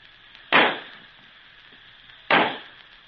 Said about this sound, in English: Then suddenly came a great sizzling sound, a loud bang, a red ball of light shot high in the air.